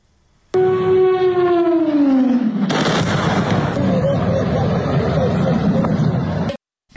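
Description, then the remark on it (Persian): A loud aircraft whine sweeps downward in pitch, then a sudden explosive blast gives way to sustained heavy rumbling and crackling noise with scattered sharp bangs, intense throughout; explosions at the port of Caracas, Venezuela, early on Saturday morning, accompanied by aircraft and helicopters flying. “بامداد شنبه به وقت محلی انفجارها در بندر کاراکاس برخی مناطق پایتخت را به لرزه درآورد.”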